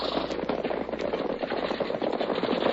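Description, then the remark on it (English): Rapid, continuous gunfire crackles throughout as a man unloads his guns, a dense volley of overlapping shots with sharp bursts standing out, loud and steady with no voices. “I'm going to unload my guns.”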